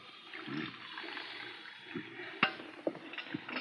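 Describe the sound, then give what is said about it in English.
Coffee streams steadily into a cup with a soft, continuous trickling wash, punctuated near the end by a few light clinks and taps of crockery, fairly quiet. “Go ahead and pour. Okay. Cream and sugar? No, black for me.”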